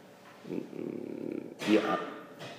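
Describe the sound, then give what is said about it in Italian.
A single sharp cough bursts out, loud and brief, following a stretch of low, muffled rumbling. “A me danno molto fastidio le persone che tossiscono, non quella che tossita adesso, è che proprio l'esempio che sto per fare.”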